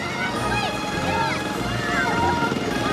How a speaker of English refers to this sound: The mower races around by itself. In high speed, the boys chase it. Smoke rises from the exhaust as the mower speeds around.